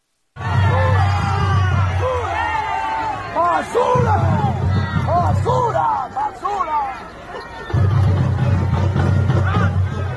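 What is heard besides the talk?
crowd booing and jeering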